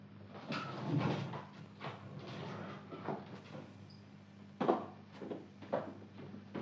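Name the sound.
door being opened slightly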